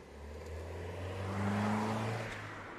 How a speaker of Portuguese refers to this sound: Ele abre a porta, senta-se no lugar do condutor e liga o carro. Finalmente, o João acelera pela rua.